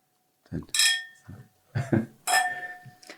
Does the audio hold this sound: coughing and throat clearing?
no